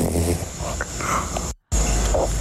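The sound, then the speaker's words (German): A small, soft snore from a sleeping dog, a relaxed nasal breath with a faint whimpering tone, broken by a brief moment of silence. “Ein kleines Schnarchen. Ich hoffe, so schnarcht dein Hund und nicht dein Sohn.”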